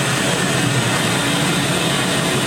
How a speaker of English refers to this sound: I'm going to power it down just for a second, and I'm going to bring in, remember that white noise? This is kind of cool to see that. So you can listen to this white noise, and then when we power it up, watch what happens. Listen to that white noise.